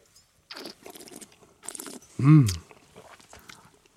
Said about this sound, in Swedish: Jag måste svälja lite också. Det är fantastiskt gott här. Nu spottade vi det här också till att börja med. Vi spottade lite